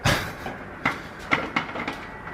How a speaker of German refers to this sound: Ja, die Eiswürfelmaschine. Ein sehr gerne gehörtes Geräusch.